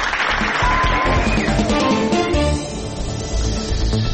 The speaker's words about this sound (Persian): این هفته جایزه ماله نقره‌ای با رأی و نظر هیئت جوری ایستگاه پنجشنبه بعد از بررسی مطبوعات در هفته گذشته تعلق میگیره به روزنامه فرهیختگان. تشویق بفرمایید.